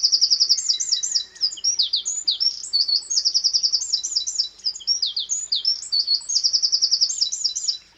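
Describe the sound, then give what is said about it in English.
A Eurasian wren, a tiny brown bird with a short, cocked tail, pours out a loud, rapid song of high trills and sharp chirps, continuous and bright for several seconds, with no voices. “A tiny brown bird with a short, cocked tail and a loud voice. The wren is unmistakable.”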